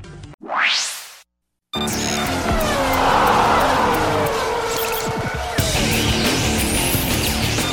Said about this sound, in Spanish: El rugir de los motores llega a Juego Limpio con la Fórmula 1 y más.